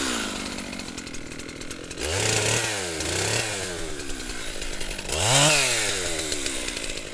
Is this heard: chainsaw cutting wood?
yes